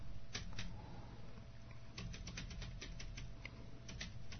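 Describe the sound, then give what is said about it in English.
Rapid, uneven clicks of keys being struck hard on a foldable keyboard while demonstrating typing with Pocket Word, sharp taps coming in quick bursts with short pauses over a low steady hum; no one speaks. “And I'm really whacking on these keys here so you can hear them.”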